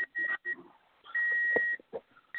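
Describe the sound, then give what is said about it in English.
High-pitched electronic beeps like a microwave's, coming from a car: two short beeps close together, then a longer sustained tone, each steady and clear at a single pitch. “Well, I heard a microwave. Yeah, it sounded like a microwave.”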